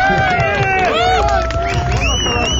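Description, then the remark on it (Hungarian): Audience applause from a large crowd for the mayor, loud and continuous throughout, mixed with cheering, shouting voices and general crowd noise. “Hatalmas tapsi arra hallgató kedvű polgármester úr. Igen, ez volt a spontán taps, igen.”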